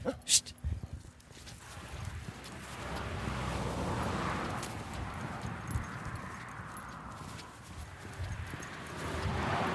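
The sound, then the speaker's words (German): Heavy hooves of a group of cows from a herd on a cattle pasture plod steadily as they walk along with a hiker on a cool day of about 10 degrees: a continuous shuffle of many animals over grass and soft ground, with rustling and occasional louder thuds. “Ich bin ja an einer Rinderwiese und schon wieder geht so eine ganze Truppe aus dieser Herde mit mir mit”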